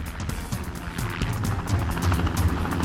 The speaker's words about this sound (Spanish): Entonces escucharon el helicóptero.